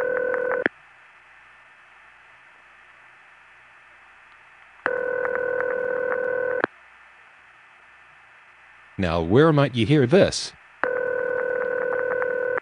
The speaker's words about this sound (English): Well, that's an example of what we called crossbar ring, or crossbar 5 ring. Actually, it was the Southern California freaks who called it crossbar ring because in LA in the 1970s, the only crossbar there was number 5 crossbar